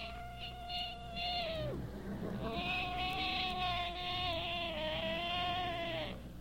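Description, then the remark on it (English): A person imitates a pig squealing as it is scrubbed with a brush in a tub: two long, loud, high-pitched squeals, the first dropping off after a second or so and the second held for several seconds, alone. “It sounded like he'd been butchered. He just carried on something terrible.”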